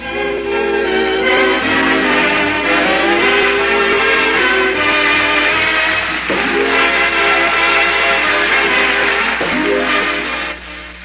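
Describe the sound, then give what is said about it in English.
A loud train rolls along with its whistle blowing in sustained, chord-like blasts that shift in pitch, filling the whole stretch without any talking. “And there's a friendship train coming your way.”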